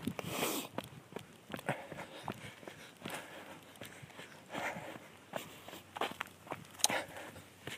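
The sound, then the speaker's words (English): Dry palm fronds rustle and crackle in uneven bursts as someone walks past them in perfect weather, with soft footsteps tapping underneath. The crisp, papery sounds come and go without any voices. “The rustling of palms as I move past there.”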